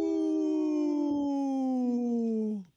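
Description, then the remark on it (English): A single sustained howl, slightly wavering and slowly falling in pitch, from a young wolf just learning how to howl, loud, ending abruptly after about two and a half seconds. No talking. “The little wolf that's just learning how to howl.”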